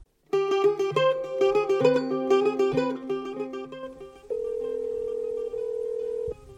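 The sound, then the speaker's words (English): The ringing tone of an outgoing phone call from London: a steady electronic beep held for about two seconds after a short burst of bright, melodic synthetic tones, clear with no voices. “I'm calling from London. Am I disturbing you?”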